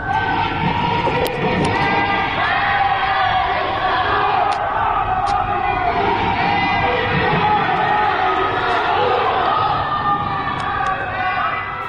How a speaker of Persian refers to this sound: اینجا در شهرک اکباتان هیدر هیدر گویان به ساختمان ها و پنجره ها شلیک می کنند. پنجره هایی که از آنها صدای شعار می آید.